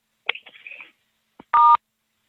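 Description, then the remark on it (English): A single loud, steady phone keypad touch tone sounds for a split second as star 6 is pressed on a phone to mute or unmute on a call, preceded by some softer, warbling electronic chirps and a faint click. No voices are heard. “Okay, if you just heard on your phone that you are unmuted, please hit the asterisk 6 again and mute yourself.”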